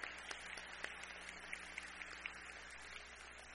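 An audience applauds, a soft, steady patter of many hands clapping with a few sharper claps standing out, continuing evenly for a few seconds without any voices.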